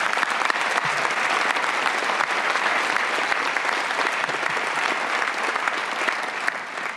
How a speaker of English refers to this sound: I'd like to also give a special heartfelt thank you to today's major sponsor, Pride America, powered by CallSource. Let's give them definitely a round of applause.